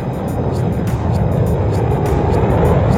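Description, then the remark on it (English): A continuous, heavy rumbling roar of rocket engines at liftoff at 9:34 a.m. Eastern Daylight Time, launching David Scott and James Irwin toward the moon, dense and deep, with rough crackling bursts on top, holding loud and steady and swelling slightly throughout. “8, ignition sequence start, engines on, 5, 4, 3, 2, 1, all engines running, launch commit, liftoff, we have liftoff at 9:34 a.m. Eastern Daylight Time.”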